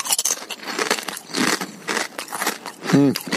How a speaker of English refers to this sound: I should forewarn you, there may be chip sounds in this. No chip licking. I don't lick chips, but I do crunch them.